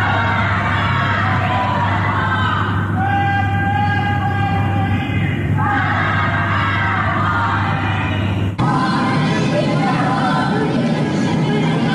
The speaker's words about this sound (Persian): در آستانه سالگرد جانباختن مهسا امینی شامگاه جمعه مردم در برخی محله‌های تهران شعارهای ضد حکومتی سر دادند.